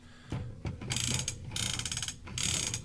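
A vintage MOTU vehicle toy's rotor mechanism clicks and ratchets in three bursts of rapid, bright clicking, with short pauses between them and no one talking over it.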